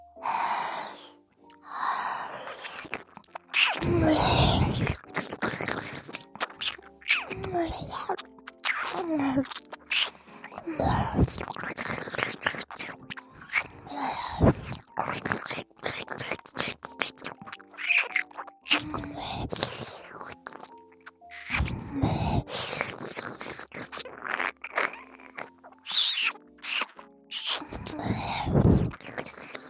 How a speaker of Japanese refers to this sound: ご奉仕好きって信じてもらえるまで激しくお耳食べちゃうんだから。